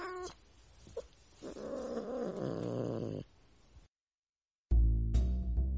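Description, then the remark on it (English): A cat, Fifi, meows in a long, drawn-out wail, preceded by a short chirp, then falls silent before another loud, harsh cry bursts in. “Oh, come on over here, little Fifi. Auntie Ethel has a nice warm spot by the radiator where you can be all comfy and cozy.”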